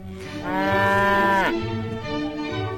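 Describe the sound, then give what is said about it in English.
A cow lets out a single long, loud moo lasting over a second, ending in a downward slide, followed by quieter low lowing and rumbling. “Leading the cow into the room that we've got.”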